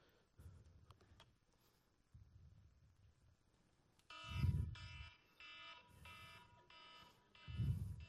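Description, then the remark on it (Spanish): An electronic alarm starts about halfway through, ringing in a series of loud, repeated beeping bursts with a steady pulse and a low thump under some bursts. The first half is quiet apart from faint rumble. “La conciencia es la alarma, hermano. La alarma, la alarma.”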